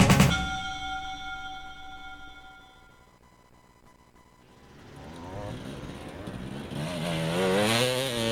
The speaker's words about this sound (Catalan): El so dels motors va ser el protagonista del passat cap de setmana a l'Espluga, on 170 pilots van donar el tret de sortida al Campionat de Catalunya d'Enduro.